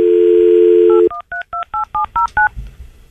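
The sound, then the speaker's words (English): A steady dial tone cuts off, followed by eight quick touch-tone beeps in an even rhythm as a home phone number is dialed, each a short two-pitched chirp, then near silence. “Let me call up a mystery phone number here.”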